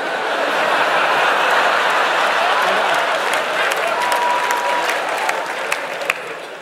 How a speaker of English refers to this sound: I really don't deserve applause on this one.